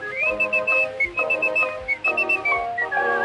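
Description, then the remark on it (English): A boy whistles a bright, lilting melody in smooth sustained phrases over steady instrumental accompaniment, on an old recording made in 1905 with a thin, slightly muffled quality. No one speaks. “Always whistling to while the time away, from the early morning to the close of day.”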